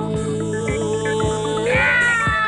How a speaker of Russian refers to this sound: А, Васька! Наверное, слишком ты добра. Брысь отсюда! Мяу!